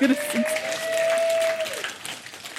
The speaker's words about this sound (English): Great work. Round of applause